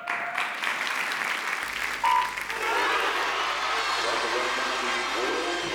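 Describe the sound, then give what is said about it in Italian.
A stadium crowd roars steadily at a swimming race at the 2009 World Championships in Rome, with a short electronic starting beep partway through, after which the cheering swells into a louder, denser, sustained roar. “A seguire lo starter, il boato della folla con la Vollmer che cerca di andare via subito dalle prime bracciate”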